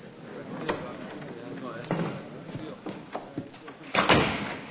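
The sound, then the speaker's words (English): A door is pushed shut with a solid thud near the end, after a few softer knocks and shuffling sounds, with faint voices in the background. “ahead and close the door.”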